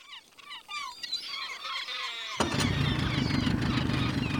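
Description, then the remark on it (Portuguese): Birds chirp for a couple of seconds, then a boat motor abruptly starts up and keeps running loud, a steady rumbling drone that drowns out everything else. “Ali no barco, a gente viu a nossa equipe pela primeira vez.”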